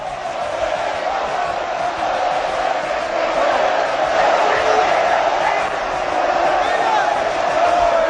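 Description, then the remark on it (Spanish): A large crowd of Real Oviedo football fans at Carranza cheers and roars continuously, celebrating the club's promotion to Segunda División A. A dense, loud wall of voices with shouts and whoops rising out of it, sustained without pause. “Esta es la afición del Oviedo.”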